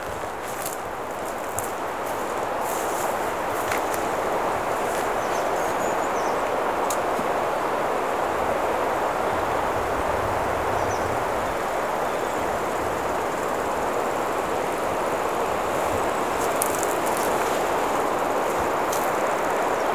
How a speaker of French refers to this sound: Et je vous laisse dans la caresse du vent.